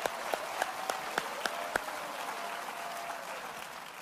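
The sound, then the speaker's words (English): An audience, including people in the balcony, clapping their hands, with a few sharp, evenly spaced claps standing out over a steady wash of applause that carries on and gradually thins. “Clap your hands. You got some Bible for that.”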